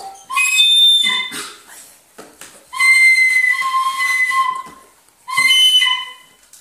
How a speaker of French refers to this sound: Elle est entourée de serpents sifflants.